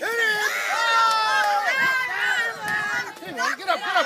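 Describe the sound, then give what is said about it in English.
A crowd shouting at a bare-knuckle fight between two men or two women in Derby, in the Kimberley, in footage uploaded to YouTube in 2016: many loud, overlapping voices yelling and cheering at once, with rising and falling cries that hold steady for the whole stretch and surge again near the end. “These are bare-knuckle fights between two men or two women. They attract a big crowd.”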